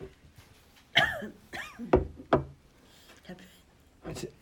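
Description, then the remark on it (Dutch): A few short, sharp coughs and throat-clearing bursts, harsh and raspy, spaced unevenly over a few seconds with quieter breathy sounds between them. “Het zit een beetje dwars, hè, de kikker.”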